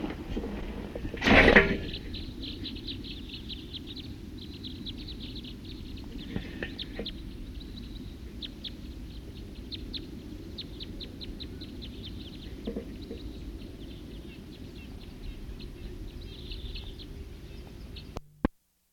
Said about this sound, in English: Start recording a wild bird.